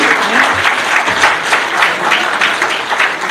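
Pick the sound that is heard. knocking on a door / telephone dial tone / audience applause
audience applause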